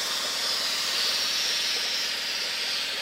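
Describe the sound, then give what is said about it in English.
A loud, steady hiss of steam escaping from a boiling cooling system runs unbroken for the whole moment, bright and airy with no pauses, no voices and little change in level. “Meanwhile, her cooling systems are, let's just say, boiling.”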